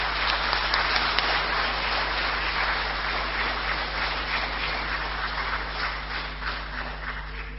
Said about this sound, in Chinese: 所以在这里我们要特别的要用我们的最热烈的掌声再次去感谢这一群。